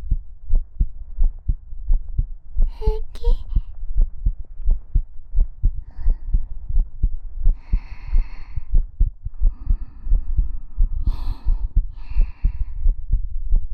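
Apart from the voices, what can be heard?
pounding heartbeat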